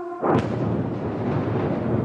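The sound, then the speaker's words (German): A single explosion from a missile strike at night over Kyiv, Ukraine, booms at about a quarter second in, then rolls into a long, low rumble that fills the rest of the moment without fading. No one speaks. “Ein Feuerball in der Nacht über Kiew. Dann, kurz verzögert, das Geräusch der Explosion.”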